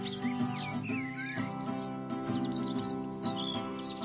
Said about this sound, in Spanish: ¿qué son estos pajaritos? El verano, la primavera.